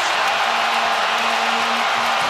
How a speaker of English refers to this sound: Everyone standing and cheering here at Chase. Dub Nation, it's Stephen Curry.